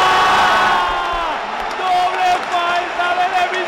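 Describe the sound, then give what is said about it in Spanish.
A loud, sustained crowd roar of cheering and whooping at the end of a tennis match at Madrid's Caja Mágica, as Rafael Nadal beats De Miñaur 7-6, 6-3 after 2 hours 2 minutes and celebrates with the crowd, with overlapping shouts rising and falling throughout. “Acaba el partido, la gente lo celebra, también lo hace Rafa.”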